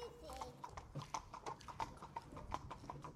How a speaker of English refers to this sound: He's more drunk than you've ever seen him, and you hail a horse and cart to take you both home.